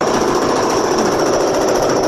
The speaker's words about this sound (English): He wrote stuck at home, his neighbors are making a lot of noise, and he has a video here, and you can just see what's going on with all the construction.